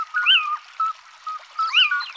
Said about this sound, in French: Ce oui-ou, c'est la chouette chevêche. C'est son cri typique, comme un miaulement énergique.